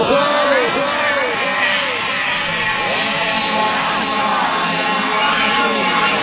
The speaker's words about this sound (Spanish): es un fenómeno, realmente, que no le molesta que le griten así